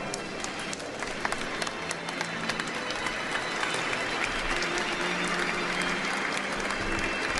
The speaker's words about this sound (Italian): Tutti gli altri sono distratti dagli sposi, si accalcano intorno a loro, applaudono, gettano manciate di riso, pretendono il bacio, il rituale lancio del bouquet.